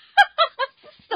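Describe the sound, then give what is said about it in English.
A chicken squawks loudly, four or five harsh, nasal cries in quick succession with brief gaps between them. No one speaks. “Put the chicken away”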